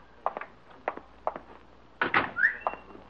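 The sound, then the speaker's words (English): Someone knocks on a door in a slow, steady series of raps, ending with a louder flurry of knocks and a brief squeak, with no voices. “That may be opportunity knocking at my door.”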